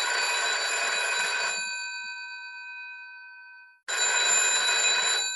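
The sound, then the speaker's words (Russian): An old dial-less internal-line telephone rings in two loud, rattling bursts in the corner of a sector's communication area, the first ring fading into a long metallic hum before the second clangs in. No voices. “В углу коммуникационной зоны нашего сектора навязчиво, мерзко и как-то архаично задребезжал старенький бездисковый телефонный аппарат внутренней связи.”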